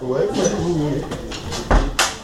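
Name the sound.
door being closed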